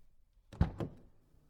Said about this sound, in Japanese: すぐ近くのドアが開く音がした。